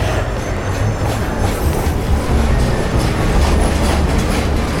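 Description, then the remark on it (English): A subway train arriving at a platform roars with a heavy, steady rumble of wheels on rails, thin metallic squeals flickering above the din throughout. No one speaks. “And I get on this train.”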